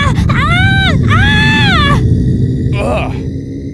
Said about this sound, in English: It's that creepy groaning again! Something's happening!